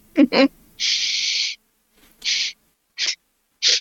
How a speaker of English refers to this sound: You get another very succinct caw.